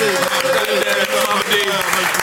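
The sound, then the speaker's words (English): A crowd claps steadily and energetically with scattered whoops and cheers rising over the dense, unbroken wash of applause for the whole stretch. “Let's make some noise”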